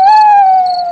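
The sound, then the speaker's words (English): A single long owl hoot, loud, holding a clear steady tone that sags slightly in pitch before fading, with nothing else audible around it. “That's an owl.”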